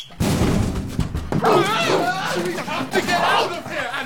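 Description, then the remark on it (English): Wild dogs bark and yelp excitedly at the doors amid a loud, chaotic commotion of shouting voices, the barking overlapping with the noisy crowd throughout. “There are wild dogs at the doors.”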